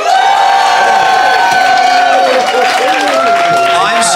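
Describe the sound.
An audience breaks into loud, sustained applause mixed with cheering and whoops, applauding to vote for the debate team they think made the best case. The clapping is a dense wash with shouting voices rising over it throughout.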